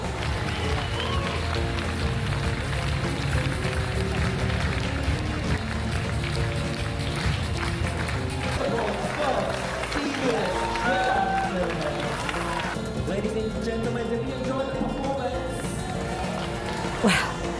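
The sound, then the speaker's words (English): A large crowd at a festival performance claps and cheers in a steady, dense roar that stays loud and continuous throughout, with scattered shouts and whoops rising above the applause partway through. “But it's really fun and you really feel so energetic with the big crowd there, you know, everybody clapping and we feel really good.”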